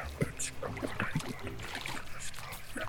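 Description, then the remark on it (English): Continuous splashing and sloshing of water as someone swims and paddles across a strong current in a sewer, with irregular bursts of churning and a steady watery background. “Let's hurry and paddle across! The current is quite strong.”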